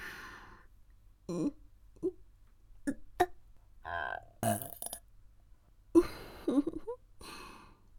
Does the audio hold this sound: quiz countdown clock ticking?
no